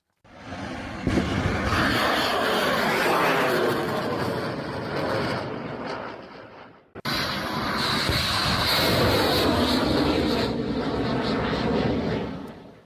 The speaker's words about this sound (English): That's the PAVA cruise missile. The Iraqi resistance is using that same type of drone.